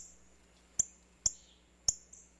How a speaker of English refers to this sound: A female northern cardinal plucks a black oil sunflower seed from a feeder.